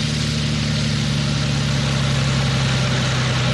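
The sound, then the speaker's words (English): A lawnmower engine idles steadily and loudly with a low, even rumble and a constant hum, holding the same pitch throughout without revving. No one speaks. “Turn this sucker off here. Where are the keys at? I know the ignition's here somewhere.”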